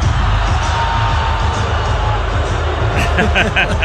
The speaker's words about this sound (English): The boos rain down.